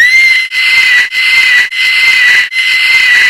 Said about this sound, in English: Let's say your kids start screaming in church.